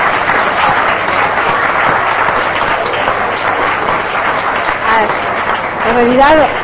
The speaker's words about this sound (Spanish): Entonces pediría para ella un fuerte aplauso y que las puertas sean abiertas.